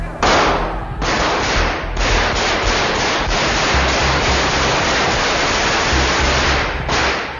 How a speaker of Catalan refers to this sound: Es tracta del tinent coronel Antonio Tejero, que acompanyat de 200 guàrdies civils disparant una quarantena de trets que no fan morts, però causen ferides a 8 diputats a causa del rebot de les bales i els impactes de trossos de vidres i escaiola.